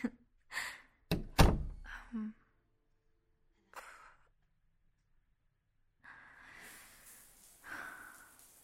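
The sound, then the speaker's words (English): A door shuts with a heavy thunk, then a brief rattling click as it is locked. Quiet breathy sighs follow. “Okay, I'll close the door now. Mm? Yeah, I'll lock it.”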